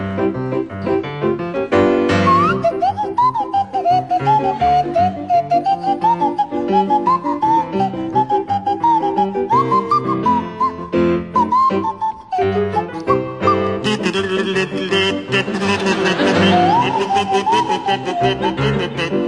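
Barry Cryer on a kazoo and Graham Garden on a Swanee whistle play a jaunty tune together, loud, the whistle's pitch sliding up and down over the kazoo's steady buzz for about twenty seconds, with no talking.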